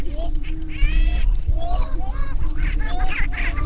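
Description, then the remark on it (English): A crowd of 24 displaying roosters calls all at once, prancing and preening for the attention of five hens, with overlapping cackling, whooping notes rising and falling, loud over a steady low rumble, with no pauses. “More birds arrive, and soon there are 24 combative roosters prancing and preening for the attention of five seemingly disinterested hens.”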